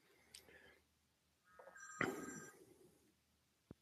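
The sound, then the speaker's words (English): A telephone rings faintly with a brief burst of high electronic tones, followed by quiet and a short click near the end. “Call you on that phone, yeah. You're on the phone now?”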